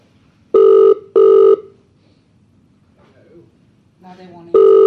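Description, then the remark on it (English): A Skype call ringing tone as a test call to the Echo Sound Test Service is placed from a computer: two loud, steady electronic tone bursts in quick succession, a pause with a faint voice murmuring, then a third ring starting near the end. “Now this, since I changed this, I can just hit enter on this and it should just make the call.”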